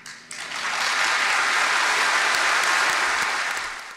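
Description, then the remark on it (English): A room full of people bursts into loud applause and cheering after a woman demands the resignation of Judge Kara Hudson, a dense, steady wash of clapping that swells in quickly, holds for several seconds, then begins to fade at the end. “You can hear there, she demands resignation in a room full of cheers.”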